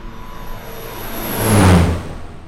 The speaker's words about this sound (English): We start driving away from the plane, and I realize we have to wait another hour for him.